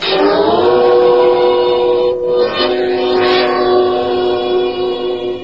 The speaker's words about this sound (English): Tonight's file opens in a railroad station in a large eastern city. It is early evening, and in one corner of the station, a telephone operator sits at a switchboard waiting for travelers to place their calls.